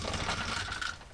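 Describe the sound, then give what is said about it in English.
Eleven twelve-sided dice are rolled, rattling and clattering together in a dense burst of rapid clicks, steady throughout, with no one speaking. “How many dice is that? 11. 11 what? Dice. Those sound like D12s.”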